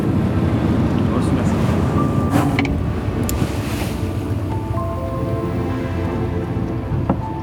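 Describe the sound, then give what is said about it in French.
A research ship drifting at sea with its engines cut to zero speed for a scientific plankton-sampling protocol: a steady wash of wind and water, occasional faint creaks and knocks, and indistinct voices in the background. “Alors maintenant, le Champlain a coupé ses moteurs.”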